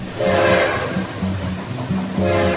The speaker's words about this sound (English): Swap Shop trains coming, rolling down that free market track. Swap Shop trains are coming, bringing all those great bargains back.